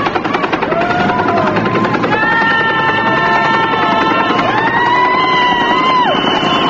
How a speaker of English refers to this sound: The helicopter is now passing over 8th Street, hovering about 75 feet directly above the crowd. The propellers, that's the sound of the rotors, the propellers of the helicopter, and they're kicking up an incredible storm of dust.